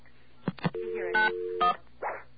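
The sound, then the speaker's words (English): Touch-tone telephone buttons being dialed to call MCI customer service: two short, bright beeps sound over a steady low tone, with a few brief clicks before and a softer burst after. “Every time we hit a button, we're going to get another sound effect here.”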